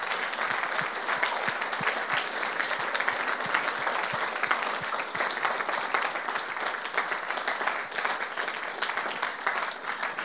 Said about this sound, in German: Lasst uns einen fetten Applaus geben für die Leute, die gerade ihre Hand gehoben haben.